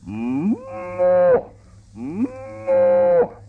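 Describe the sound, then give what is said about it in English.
A human voice imitates a cow, giving two long, drawn-out moos with rising then sustained tone, fairly loud, separated by a brief pause. “Imitate a cow or milk one? Well, I'd rather imitate one.”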